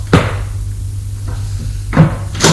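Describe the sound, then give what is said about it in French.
A door opens with a short series of sharp clunks and latch clicks, spaced irregularly, over a steady low hum with no talking. “La porte s'ouvre encore une fois.”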